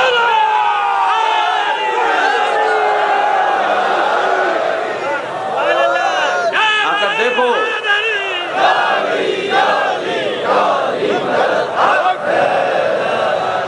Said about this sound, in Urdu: کاش تمہیں خدا یہ سعادت دے دیتا کہ تم ایک منٹ کے لیے یہاں پر آ جاتے اور جو کچھ تم نے بغض کا اظہار کیا اس کے مقابلے میں ان چاہنے والوں کی نعرہ حیدری کی آواز کو سن لیتے.